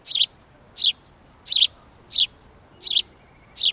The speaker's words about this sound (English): House finches sing from the wires and nest in the ivy hanging from the side of a building.